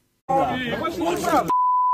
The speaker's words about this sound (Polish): Oddaj immunitet i chodź tu. Tu słowo wypikane. No na co by było po chodź tu, no to można się domyślać.